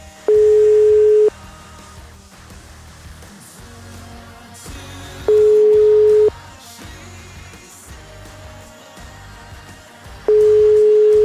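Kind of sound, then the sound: signal or alarm, phone call tones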